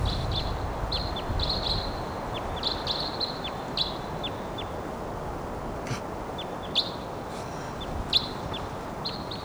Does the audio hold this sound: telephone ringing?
no